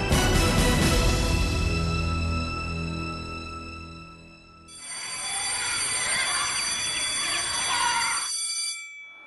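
An alarm clock rings loudly with no talking, a steady metallic ring full of bright overtones. It fades briefly, then a harsher, buzzier burst of ringing follows before cutting off.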